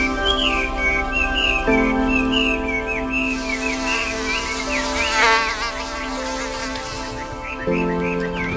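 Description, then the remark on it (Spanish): Loud buzzing of a fly and a mosquito drones steadily for several seconds, a thin high whine wavering above the lower hum, with no one speaking, as hot weather arrives. “Pues sí, ya está aquí la calor. Y el mosquito y las moscas.”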